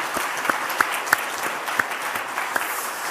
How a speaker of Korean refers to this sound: 오늘 이 자리에 아삽 찬양대는 자리에 앉아 계시고 호산나 찬양대가 여기 앞에 있지만은 우리 다 같이 우리 찬양대를 향해서 고맙습니다. 박수 한번 하겠습니다.